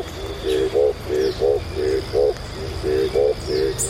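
Frogs calling at night at an eco lodge in Mindo, Ecuador: a steady series of low, pulsing croaks, often in quick pairs, repeating about twice a second over a soft background with faint higher chirps.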